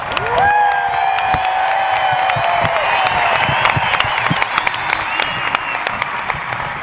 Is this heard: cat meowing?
no